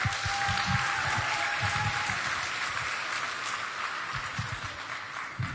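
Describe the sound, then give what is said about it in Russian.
A crowd claps steadily for several seconds as a man celebrating his birthday is invited to come up, a dense, even wash of applause that stays loud throughout with no voices over it. “А можно тебя попросить выйти, подняться, пожалуйста, под ваши аплодисменты?”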